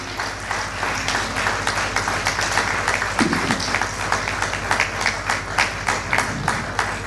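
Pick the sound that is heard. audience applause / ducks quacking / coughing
audience applause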